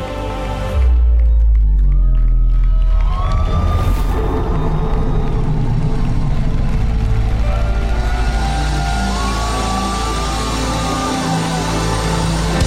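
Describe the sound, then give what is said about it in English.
A large crowd roars and shouts together, a loud, dense wall of voices that erupts after a brief pause and holds steady for over ten seconds, with rising and falling cries above it. “Loose, loose, loose the lion. I want to hear you roar.”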